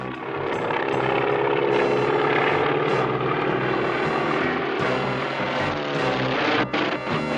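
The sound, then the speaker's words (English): A loud, steady propeller-plane engine drones, its buzzing roar holding nearly constant with slight wavering in pitch, and no voices over it. “I can't control the plane.”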